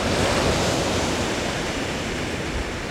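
A heavy, continuous wash of churning water as large waves surge after a huge chunk of ice breaks off a glacier, with a deep low rumble beneath a broad roaring hiss that stays steady and loud throughout, with no voices.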